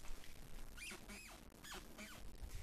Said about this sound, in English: So it goes in your ear, it hits the eardrum, and then that's the squeaky floorboard. See, I got it. That's why I'm rearranging the studio. Can you hear it? Hold on.